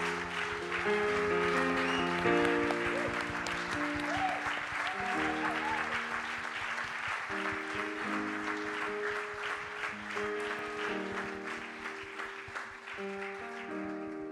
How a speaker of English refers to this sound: And we give our veterans a big round of applause and thank you today.